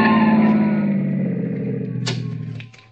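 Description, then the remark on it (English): A car engine drones loudly, its pitch sagging as the car, carrying four youths and weaving recklessly through highway traffic in Dedham near the Westwood town line, slows and is forced to the curb by a pursuing police car, with a brief sharp burst of noise near the end as it stops. “The driver is weaving recklessly in and out of traffic.”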